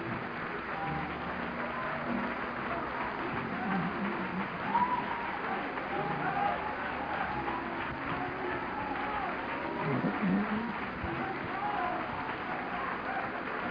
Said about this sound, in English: Would you clap for the Lord for just a moment, and would you worship Him?